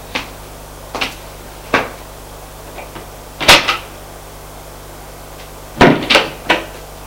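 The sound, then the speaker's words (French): A door at the end of a cellar corridor being opened: a series of sharp clicks and knocks from the latch and handle, spaced irregularly, with a louder clatter midway and a cluster near the end over a low steady hum. “Il y a une autre porte.”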